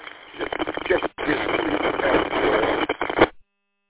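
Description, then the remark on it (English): An amateur radio transmission over a linked repeater crackles with heavy static, a tinny, muffled voice buried in hiss and cutting out briefly a couple of times before the signal drops away. “Well, that last transmission, a lot of that was static, but I heard bits and pieces.”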